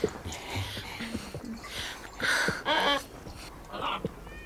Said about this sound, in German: Ja, und jetzt, da höre ich Vogelkreische. Das, ist da die Flugfolgere, von der ihr mir vorhin erzählt habt? Ja, genau. Mensch, da gibt's vielleicht viele bunte Vögel.